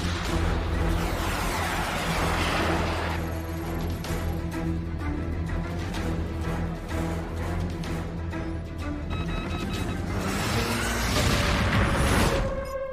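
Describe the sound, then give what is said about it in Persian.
A loud, rumbling blast of a missile being intercepted and destroyed by another missile roars continuously for several seconds, with a dense low boom that surges again near the end; no one speaks. “موشک نابود شد.”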